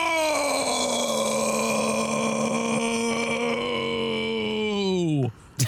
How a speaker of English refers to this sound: Did you have a lot of soda to drink right before that? Sorry, that started as a yell and then it became a burp.